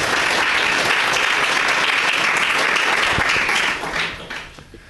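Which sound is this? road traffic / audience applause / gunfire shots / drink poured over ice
audience applause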